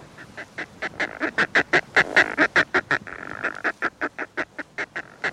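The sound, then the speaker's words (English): A rapid series of harsh, cackling calls of the northern fulmar, a seabird related to shearwaters and petrels, about two dozen strident notes in a steady rhythm that swell louder mid-sequence and then taper slightly, with no voices present. “One of these birds is the northern fulmar, an abundant seabird related to shearwaters and petrels.”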